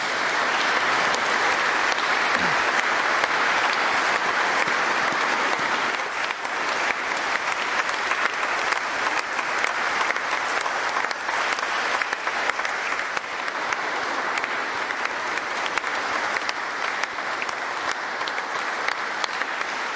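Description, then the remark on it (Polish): A large audience applauds steadily for the whole stretch in thanks to the residents of Ciepielów for their hospitality, a dense, continuous wash of many hands clapping at once, loud and even without letting up. “Niech tym zewnętrznym wyrazem naszej wdzięczności będą te oklaski.”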